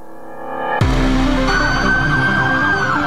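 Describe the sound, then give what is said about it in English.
An emergency vehicle siren sound effect, played on FM Talk 106.5 radio during a traffic report, bursts in abruptly and keeps blaring loudly, a sustained high wailing tone layered over a deep engine-like rumble, with no one speaking. “Somebody's going to be pulling over thinking, there's somebody behind them. Somebody needs to get through.”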